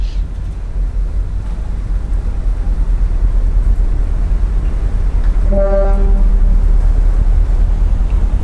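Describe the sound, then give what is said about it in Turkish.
A ferry pulls in at a pier in a fine rain, passengers getting off: a steady, heavy engine rumble mixed with wind noise, and a brief tonal horn blast sounding partway through. “Vapurdan en son bir adam ve bir kadın indi.”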